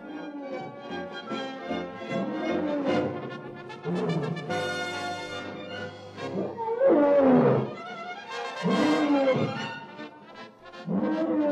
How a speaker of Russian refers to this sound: Сильвия Чезарини и ее атласские львы. Ух ты! Самый свирепый зверь, между прочим.